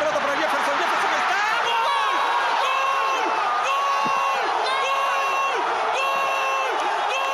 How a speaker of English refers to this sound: In Peru, the celebration of people jumping and screaming after Farfán's goal was so intense, it activated an earthquake alarm detector in Chile.